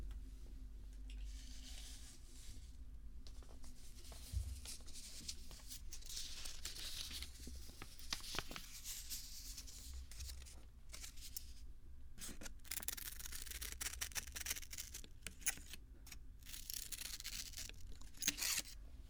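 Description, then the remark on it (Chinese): Crisp snipping and rustling of paper under scissors, an irregular run of short cuts and crinkles continuing throughout, with no one speaking. “剪的是它，是也可以用一下剪纸张，我拿一下。”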